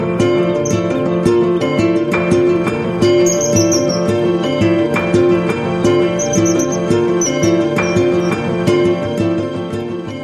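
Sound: bird calls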